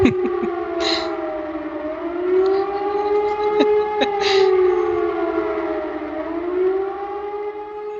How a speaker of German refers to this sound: Hier, Feuerwehrsirene E57, Sirenenprobe Büttelborn.